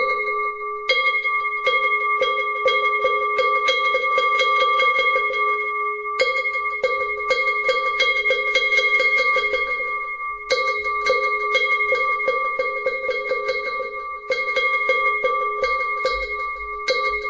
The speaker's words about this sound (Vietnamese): Thì bây giờ thì bắt đầu vào thì chúng ta cũng cho ba hồi chuông mõ như thế này đã.